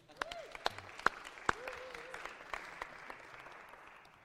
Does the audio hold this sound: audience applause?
yes